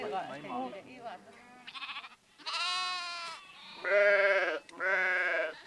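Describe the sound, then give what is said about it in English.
Sheep bleat loudly, three long wavering cries in quick succession, following a brief stretch of indistinct voices and softer animal sounds at the start. “sheep have always provided for her family.”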